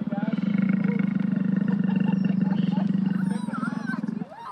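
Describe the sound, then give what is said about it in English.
A loud roar from a life-size animatronic Dilophosaurus just inside the main gates of Lake George Expedition Park on Route 9, one long, deep, rumbling growl held for about four seconds, tapering into thinner warbling cries at the end. “Just inside the main gates stands a life-size animatronic dinosaur.”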